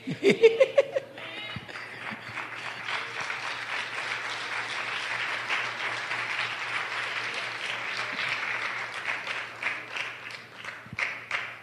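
An audience at a church sermon claps in a dense, steady wash of applause that holds for about ten seconds before tapering, preceded by a brief voice and a low constant hum underneath.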